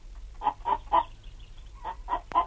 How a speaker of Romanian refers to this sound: Vânzând un clapon, Mutter Curaj are norocul să-l reîntâlnească pe Aylif.